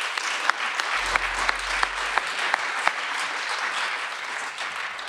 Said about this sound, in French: On peut l'applaudir.